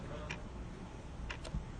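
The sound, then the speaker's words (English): A clock ticks softly against a steady hiss of background noise, a few sharp, faint clicks spaced unevenly across the moment with no voices present. “And there's a lot of times it's a good background noise, because that's the truth. Time is just ticking away.”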